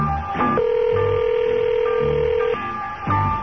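A single long ringback tone, steady and even for about two seconds, heard through a phone line while waiting for someone to pick up; no voices, just faint line noise around it.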